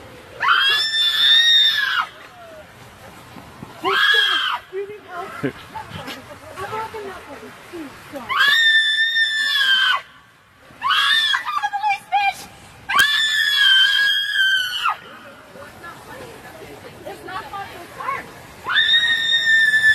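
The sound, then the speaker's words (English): A woman who objects to a Trump sign screeches loudly in long, high-pitched bursts, about five of them over the stretch, piercing, with rougher vocal noise filling the short gaps between. “I don't think it's appropriate to have her screeching, though.”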